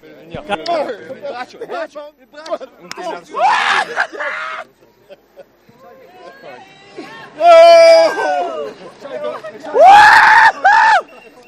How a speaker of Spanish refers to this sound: Con la celebración, gritos de rabia de Dylan Groenewegen, el campeón de los Países Bajos del Jay Kualula. Ganador de este tercer sprint del Tour.